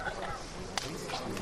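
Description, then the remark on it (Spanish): A single sharp knock from a capataz's hammer on the float carrying the Cristo in calle Pureza rings out clearly midway through, over a steady murmur of crowd noise and voices. “Y ahora se escucha el martillo.”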